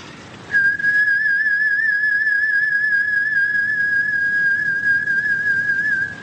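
A person whistles through their lips, holding one long, steady note for about five seconds with a gentle wavering vibrato and gradually swelling tone, the breath held by the diaphragm like a singer's, clear, with no talking.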